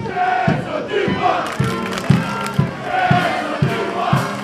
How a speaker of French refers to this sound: on est ici sur l'esplanade Espacité avec une foule pour célébrer le HC La Chaux-de-Fonds.